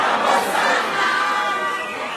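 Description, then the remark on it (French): A loud crowd surrounding the returning governor cheers and shouts in a dense, continuous roar of many voices, with no single speaker standing out, fading slightly toward the end. “La foule l'entoure.”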